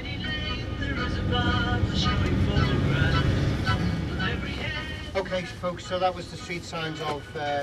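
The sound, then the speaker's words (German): The colourful tour bus in Liverpool rumbles along toward Penny Lane with a steady low engine drone, heaviest in the first few seconds, while a voice talks over it. “Der bunte … Bus nähert sich einem der Höhepunkte jeder Tour.”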